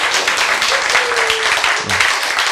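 A crowd applauds with dense, continuous clapping that stays steady and loud for a couple of seconds, with a brief voice rising faintly underneath.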